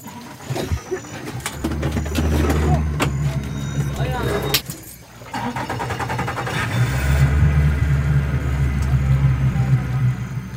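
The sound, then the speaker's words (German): A motorboat engine rumbles loudly, cuts out for a moment, then starts again and runs at a steady, throbbing drone with some clattering over it, as a village chief starts the boat and travels upstream on a river. “Der Cacique, also der Häuptling des Dorfs, startet das Motorboot und fährt flussaufwärts.”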